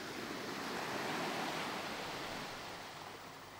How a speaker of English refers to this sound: Small waves gently lap on the shoreline. You can hear the sound of them softly breaking on the sand.